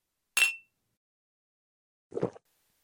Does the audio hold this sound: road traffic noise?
no